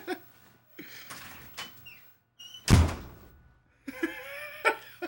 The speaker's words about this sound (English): You slammed my door.